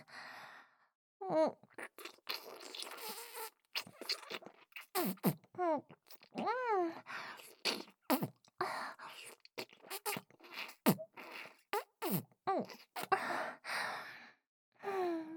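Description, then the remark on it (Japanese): Wet, smacking lip kisses, plump lips pressed and ground in, deliberately making lewd noises, repeat in an irregular series of sharp, moist clicks, interspersed with soft breathy sighs and short gasping vocal sounds, with no words spoken. “プルプルの唇をグリグリって押し当てて、わざとらしく下品な音立てちゃいます。”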